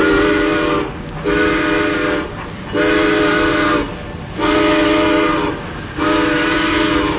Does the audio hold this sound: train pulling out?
yes